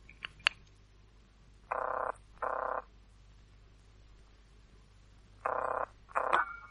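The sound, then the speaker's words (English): A telephone ringing tone heard down the line as an operator puts through a call to Kenley 734, sounding its double ring-ring twice with a pause between. The buzzy tone is moderately loud, with a couple of faint clicks at the start. “Number's ringing for you, Miss Conway.”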